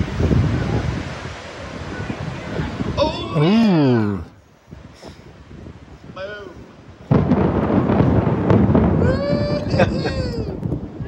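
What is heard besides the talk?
thunder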